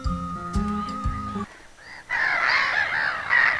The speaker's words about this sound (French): Il y a les mouettes.